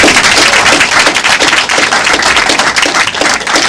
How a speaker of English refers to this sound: I think we all should applaud her. Absolutely.